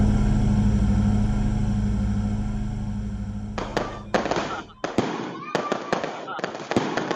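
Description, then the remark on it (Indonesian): A low steady rumble gives way to a firecracker, set on a pile of straw and lit by its fuse, going off: a rapid, irregular string of sharp, loud cracks and pops that crackle on for several seconds. “Petasan itu meledak.”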